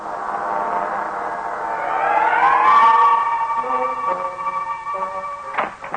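A siren wails steadily, its tone climbing in pitch and swelling louder midway before holding at a high, sustained note, with a few faint knocks near the end.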